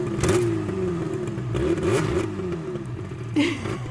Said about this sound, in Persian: ایوای موتور باباییه.